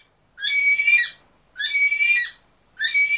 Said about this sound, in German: Ein Hilfeschrei? Auch wieder falsch. So klingt eine bestimmte, ziemlich gut gelaunte Unterart des Kakadus.